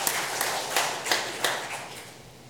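A group applauds with steady, dense clapping, a bright crackle of many hands with a few sharper claps standing out at regular intervals, holding at an even level throughout.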